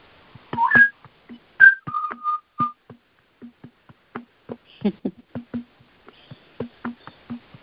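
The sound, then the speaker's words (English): A young butcherbird practices its loud call, giving a few short, clear whistled notes in quick succession, while a steady series of sharp tapping clicks continues throughout. “It's a baby butcher bird.”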